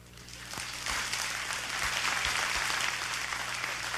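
An audience breaks into sustained applause, a dense wash of many hands clapping that swells in the first second and holds steady for several seconds with no talking.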